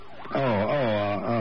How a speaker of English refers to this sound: Sounds like the ambulance now.